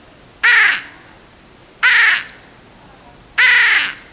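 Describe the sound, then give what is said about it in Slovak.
A hooded crow gives three loud, harsh caws spaced about one and a half seconds apart, with faint higher bird chirps in the background. “A tá straka má jednu sesternicu, ktorá kráka.”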